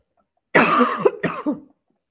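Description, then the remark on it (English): A harsh, raspy cough followed by two shorter throaty clearing bursts, fairly loud and alone with no talking, lasting just over a second. “Spirit often tickles my throat when they're trying to come through or somebody's trying to give me a message.”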